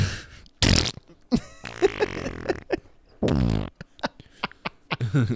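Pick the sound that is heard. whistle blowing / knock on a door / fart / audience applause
fart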